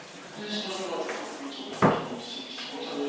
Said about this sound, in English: So I'm waiting for her to come out, and then I'm going to do it. Oh, wait here, you can hear the sound of the door.